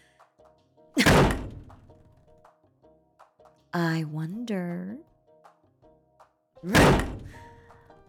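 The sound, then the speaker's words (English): Two heavy, echoing thuds of bathroom stall doors in a men's room banging open as someone checks them, a few seconds apart, with a resonant ring trailing each; a voice speaks briefly between them. “You always did prefer the bathroom stall farthest from the door. But I should check them all.”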